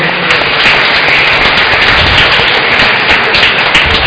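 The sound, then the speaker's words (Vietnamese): A church audience applauds steadily to thank a charity society, a loud, dense wash of many hands clapping that holds at an even level for about four seconds with no voices standing out. “Lần nữa thì cộng đoàn chúng ta cảm ơn hội bằng một tràng vỗ tay nữa.”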